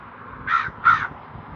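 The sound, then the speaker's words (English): Two harsh, raspy caws in quick succession from a glossy-looking crow in the morning, clear, over a quiet low background hum. “I wish I had something to give you. Caw, caw.”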